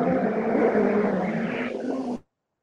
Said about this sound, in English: And that was a moped.